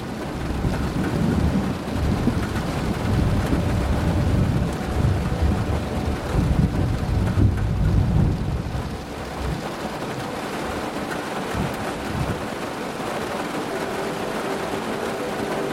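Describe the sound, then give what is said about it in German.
Steady rain pours down while deep thunder rumbles and rolls through the first half, then eases into a softer, continuous downpour. No voices, just the dense, even hiss of the storm. “Alles verblasst und wird eins mit dem gleichmäßigen, beruhigenden Klang des Regens und des Gewitters.”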